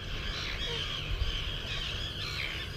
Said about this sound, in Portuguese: É mais ou menos do tamanho de um pombo, mas anatomicamente muito diferente. É bem mais esguia. É também conhecida por andorinha do mar. Mas o seu nome mais comum é garajal. Nesta ilhota há largas dezenas de casais nidificantes.